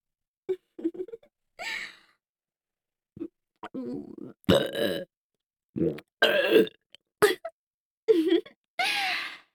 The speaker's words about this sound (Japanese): 最初は女性の恥ずかしいところを見るのが好きなだけだったのに、いつの間にかこじらせちゃって。女性のゲップ、大好きになっちゃったんですよね。